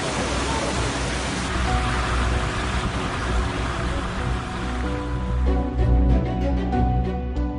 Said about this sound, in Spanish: Ha sido horrible. El torrente se había desbordado y que había coches que iban volando. Se los llevaba el agua. Y hay una calle completamente llena de coches amontonados, unos encima de otros.